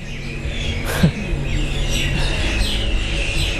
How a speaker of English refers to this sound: The birds are singing.